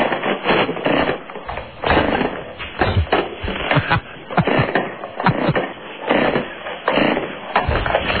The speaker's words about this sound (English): I gotta go get my other chainsaw. This one doesn't want to start up.